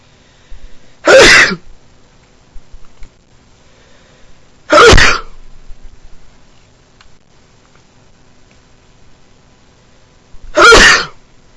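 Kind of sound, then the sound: human body sound, sneeze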